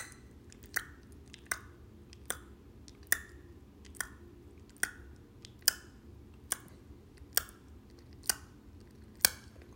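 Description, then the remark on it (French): About ten sharp tongue clicks against the upper gum, made as part of a breathing and self-massage exercise, evenly paced just under a second apart, crisp over a faint low background hum, with no talking. “Main croisée derrière la nuque, on masse 9 fois le point 20 vésicule biliaire avec les pouces et on fait claquer la gencive supérieure avec la langue 10 fois.”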